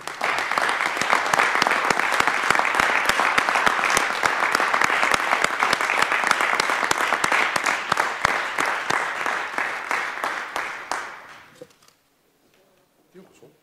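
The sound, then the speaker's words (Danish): A group of people applauds steadily for about eleven seconds for Christian Bro, newly elected mayor of Fredericia Municipality, the dense clapping loud and even before thinning out and fading into near silence. “Giv Christian det største bifald.”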